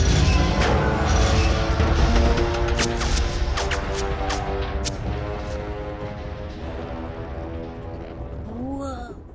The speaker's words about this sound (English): He grabs a handrail of the car just ahead as the old haunted car crashes down a steep ledge.